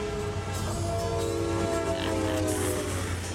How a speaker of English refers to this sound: Big trains rolling down the cold steel tracks. Black stack of smoke trailing down its bags. Throttles wide open as the whistle screams. Stoking up the fire on a full head of steam.